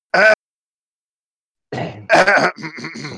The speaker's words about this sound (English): So, I don't know why I just cough.